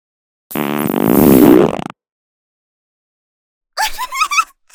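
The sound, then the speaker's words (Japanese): A loud, drawn-out fart with a buzzy, rumbling low tone lasts over a second, then stops abruptly; it is let out as a surprise at very close range. After a short silence, a voice begins speaking. “くらったね、不意打ちで臭いおなら。”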